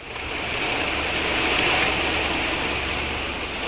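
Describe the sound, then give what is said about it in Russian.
A steady, rushing wind blows without pause, a broad hiss that swells in over the first moment and holds at an even, fairly loud level throughout, with no voices. “Давайте-ка посидим тихо-тихо, и мы услышим, как он поет.”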